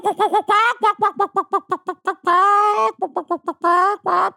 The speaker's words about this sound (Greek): Αυτό ήταν κότες για όσους δεν έχετε επαφή με φύση.